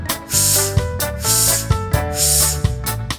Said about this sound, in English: Blowing up balloons is fun.